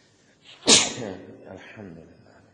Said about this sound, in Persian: مستحبه وقتی کسی عطسه میکنه، وقتی عطسه میکنه بگه الحمدلله رب العالمین، اللهم صل على محمد و آل محمد.